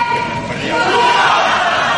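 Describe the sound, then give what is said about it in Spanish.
A large crowd inside a venue in Girona cheers and shouts in a steady, loud roar of mixed voices, a very long ovation for the King and Queen of Spain, already seated, sustained without a break. “Pero el sonido de dentro es esta ovación, larguísima ovación, con los reyes ya sentados, como diciendo, bueno.”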